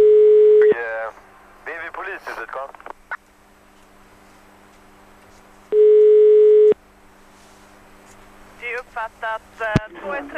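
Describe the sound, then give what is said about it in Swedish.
An outgoing phone call's ringback tone, a call to the manager of a sports hall, sounds twice, each a steady one-second beep about five seconds apart, clear over the line, with brief bursts of voices in the gaps. “Ja, i det här samtalet får vi höra när vi som poliser ringer upp en ansvarig för en sporthall och berättar att den här sporthallen har fått ett oväntat besök.”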